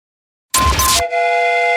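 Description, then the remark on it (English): A train whistle sound effect for the radio segment Jamie's Train of Thought on Alice 105.9: a half-second burst of loud hissing steam gives way to a sustained, chord-like whistle, steady to the end with no voices. “You've just bought a ticket on Jamie's Train of Thought.”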